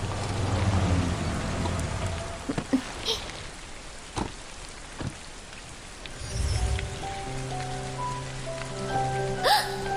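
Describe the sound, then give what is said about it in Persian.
Steady rain hisses across the whole scene, with scattered sharper drops hitting a surface and a low rumble underneath; a faint tonal hum joins in the later part. “ببینی تو بارونم میتونم ظاهر شم.”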